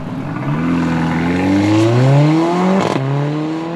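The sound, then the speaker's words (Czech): A powerful car engine revs hard, its throaty drone climbing steadily in pitch, cutting off briefly in a quick gear change near the end, then pulling on again. Loud, with no talking. “Byli jste zvyklí, že sem vozím plnotučný káry. Vysoký výkon.”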